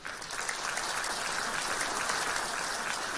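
Sustained audience applause thanking Lu Junhong for his Buddhist talk, a dense crackle of many hands clapping at a steady, fairly loud level throughout, with no voices standing out.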